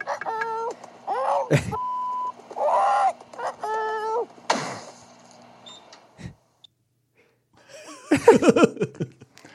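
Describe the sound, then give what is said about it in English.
A parrot mimics a microwave oven's done beeping: several short, steady tones alternate with squawks and whistles, fairly loud, then a pause and a final burst of chatter. “I thought it beeped there at the end of the microwave.”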